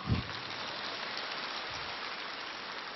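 A steady wash of crowd applause, dense and crackling, holding at an even level for a few seconds with no voices over it.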